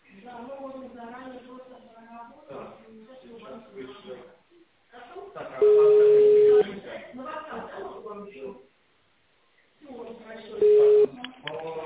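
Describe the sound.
An automated phone greeting from a company branch in Russia's Volga Federal District speaks over a narrow, tinny phone line, asking the caller to switch the phone to tone mode and dial an extension; then a loud steady ringing tone sounds for about a second, and a shorter tone repeats near the end.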